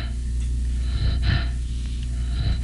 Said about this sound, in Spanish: Y ven ustedes cómo la respiración casi desaparece, pero poco a poco se va reanudando.